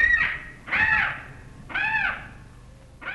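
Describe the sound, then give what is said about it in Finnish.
A parrot in India gives four loud, harsh squawks, each a raspy burst separated by short pauses, with no voices present. “Sanotaan, että maan 2400 lintujen lajista ja alalajista kaunein on ehkä papukaija.”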